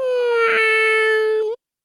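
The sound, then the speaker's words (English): A cat's meow played in reverse: one steady, nasal, tonal cry held for about a second and a half, then a quick upward flick before it cuts off abruptly. “we're doing a kitty cat meow here in round one. You're going to hear it two times backward, and then we'll see what you sound like.”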